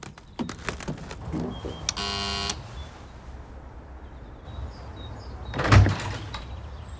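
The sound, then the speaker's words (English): A doorbell at a house's front door, pressed by a girl on roller skates in the daytime, gives a single short buzzing ring lasting under a second. A few light clatters come first, and a dull thump like a door follows later. No one speaks. “Daytime, Katie wobbles up Eve's front path on her skates and presses the doorbell.”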